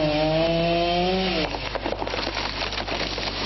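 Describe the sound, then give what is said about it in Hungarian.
A chainsaw engine whines at a steady pitch, then bites into wood, giving way to a loud, rough, crackling cutting noise that continues to the end, as Szolnok firefighters cut up trees downed by a storm in Szolnok, Hungary. “Fakivágás és facsankolásos munkátokat végeztünk.”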